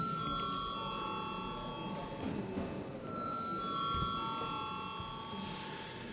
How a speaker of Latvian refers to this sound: Paldies, lūdzu zvanu.